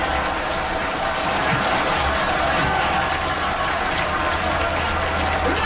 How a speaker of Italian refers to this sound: Bravo, bravo. 92 minuti di applausi.